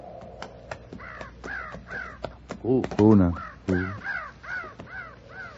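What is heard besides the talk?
crows cawing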